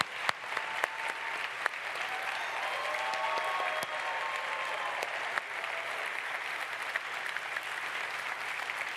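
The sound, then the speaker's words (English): Sustained applause from a large audience at an awards event for the student Partner Award and Challenge winners, a dense steady wash of clapping with a few sharper claps standing out, lasting throughout at moderate volume. “Big round of applause.”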